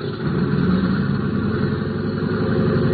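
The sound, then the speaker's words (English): A steady, loud drone of a big plane's engines idling and warming up for a trip to Dallas, a dense low rumble with a constant hum that holds evenly throughout, with no voices. “The passenger door was closed, and the big plane's engines were warming up for the trip to Dallas.”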